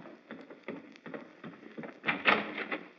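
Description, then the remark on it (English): A front door being opened in the morning as it starts to rain, heard as a run of fairly quiet clicks and knocks that builds to a louder rattling clatter near the end, with no one speaking. “Oh, Miss Kitty, there's the front door. It's all right, Potter. I'll answer it.”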